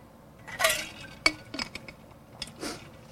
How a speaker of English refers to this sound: Need to take a sip.